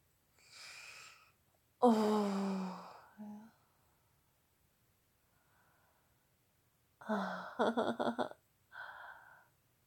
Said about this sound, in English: Oh, I love hearing your growls. Oh, some of you panting with your clenched teeth. Oh, I love it.